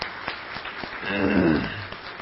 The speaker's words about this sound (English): Let's give our youth and children a round of applause.